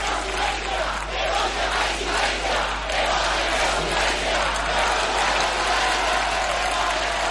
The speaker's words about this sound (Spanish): Gritos de sí se puede y que vote el presidente en la puerta de la calle Ferraz, llena de gente, no sé si ha llegado a votar en este momento.